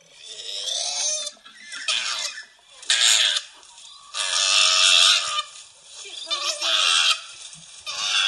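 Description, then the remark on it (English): A female koala, slapping a male that was trying to mount her, screams at him in a string of loud, harsh, wailing cries, about six bursts with short gaps between them, shrill and raspy with no talking. “And she turned her head around and started slapping him. And this is the noise.”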